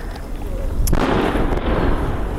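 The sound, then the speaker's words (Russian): An artillery launch: one sharp, loud blast cracks out, then a heavy rushing roar and low rumble carry on steadily to the end, with no voices. “Тільки постріли арти, постріли арти і звук техніки. ПВО працює. Ось. І ой, ще запуск нормально пішов.”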